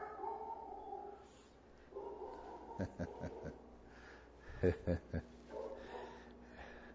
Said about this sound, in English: Well, you're always going to get a little bit of Molly barking.